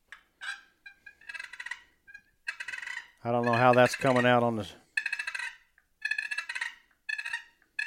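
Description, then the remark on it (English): Raspy, rolling turkey purrs, a feeding call, ground out by grinding the lid of a box call in a series of short bursts, broken midway by a man briefly speaking before the trilling resumes. “The hardest to do on a box call is purring. Basically, you're going to grind the lid.”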